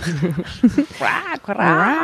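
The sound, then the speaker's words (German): Howler monkeys call loudly at Schönbrunn Zoo, a run of rising and falling, wavering whoops and howls that swell and overlap for a couple of seconds. “Hört ihr die Schreiaffen? Die Brüllaffen?”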